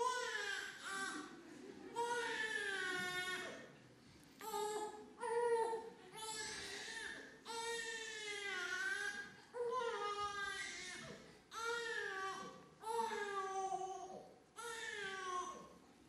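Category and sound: human body sound, newborn baby crying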